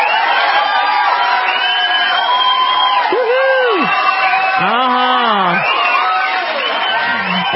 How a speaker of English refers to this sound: So how about that? I'm going to give him a little applause for that.